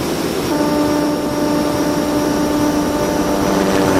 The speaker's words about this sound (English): There's a plane going by, and we're almost done.